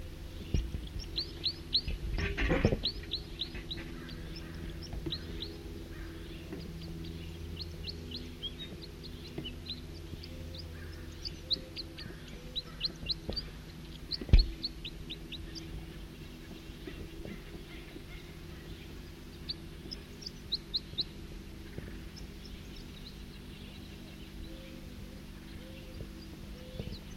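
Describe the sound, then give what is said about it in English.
A male bird sings a steady stream of short, high chirping notes that continue throughout, over a constant low hum, with a loud thump early on and a sharp click midway. “A two male in song.”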